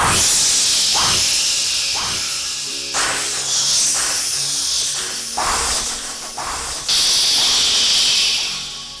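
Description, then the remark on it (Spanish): Strong wind blows steadily with a loud, airy hiss, swelling in repeated gusts every second or two. No voices are heard. “Y se puso a soplar como un condenado.”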